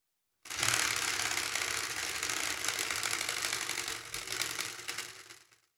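A spinning prize wheel clicks rapidly in a dense, steady ratchet-like rattle for about five seconds, then tapers off and fades as it slows to a stop. No one speaks.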